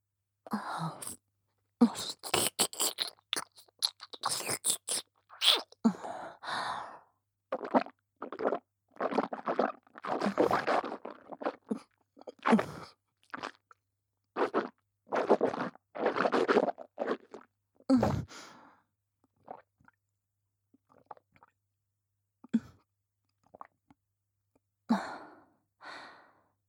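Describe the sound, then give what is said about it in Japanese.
Wet chewing and eating sounds come in irregular bursts of smacking and squelching, mixed with soft breathy exhales, then thin out into sparse mouth noises after a brief pause. No one speaks. “恐れ入りますが、咀嚼音の確認をお願いします。”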